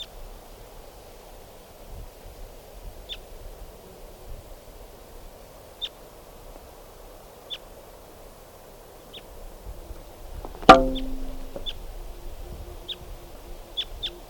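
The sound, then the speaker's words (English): A wild bird gives short, high chirps at regular intervals, quicker toward the end, as it flies across a clearing, over a low rustling background, with one sharp louder crackle partway through. No one speaks. “I'm not sure if it's a male now, but that was a wild bird, and it just flew across the clearing.”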